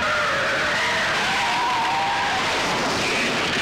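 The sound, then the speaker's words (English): A police car's tires screech loudly in a long, continuous skid as it swerves and slides sideways into a chain-link fence, the squeal wavering and sliding in pitch over a rough roar of engine and road noise, sustained throughout. “The police car sways wildly round the corner, and a shot from the hearse smashes one of its headlights, making it swerve, skid, and slide sideways into a chain-link fence, coming to a halt, facing backwards.”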